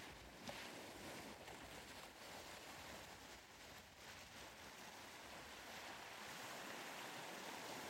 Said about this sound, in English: Not far off, the gentle sound of fishing boats returning to harbor drifts across the water, a peaceful reminder of Cornwall's timeless connection to the sea.